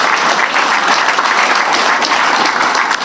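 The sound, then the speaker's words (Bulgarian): An audience at a Bulgarian coalition's election campaign event claps for Petar Moskov, list leader for Ruse: a dense, continuous wash of many hands applauding at a fairly loud, even level for the whole stretch, with no voices standing out. “Аплодисменти за него.”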